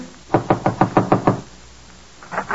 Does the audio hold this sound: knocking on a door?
yes